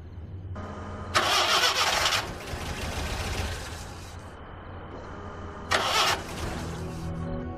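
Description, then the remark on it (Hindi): A car engine cranks and turns over with a loud, rough burst, settles into a steady idle, then gets another brief surge before idling on, with no voices. “तुम्हारे जान की कसम, ये गाड़ी मुझे मशकूक लग रही है।”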